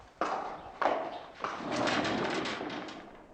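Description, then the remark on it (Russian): Three slow, heavy hoof clops of a horse laden with game, ridden back from hunting on the prairie, land about half a second apart, followed by a longer, steady rumbling scrape that fades out. No one speaks. “Ничего не подозревая, я возвращался на лошади, нагруженной дичью.”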